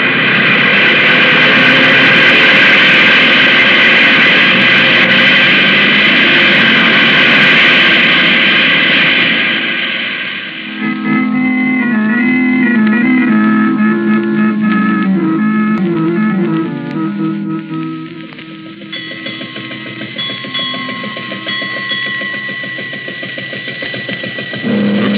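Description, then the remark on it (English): A loud airplane engine roars steadily as the plane takes off, a dense drone for about ten seconds before giving way to a lower, more tonal hum. “You were hired to pilot this plane, and that's all. So get the plane off the ground.”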